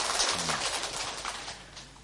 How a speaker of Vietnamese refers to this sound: Mời toàn thể đạo tràng chúng ta cho một tràng pháo tay để đón chào hai thành viên mới.